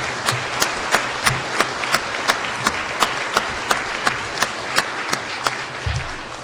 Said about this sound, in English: And let's give a round of applause one more time for the choir of angels behind me.